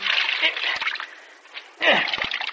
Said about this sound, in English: Here, let me wring that stuff out for you, will you?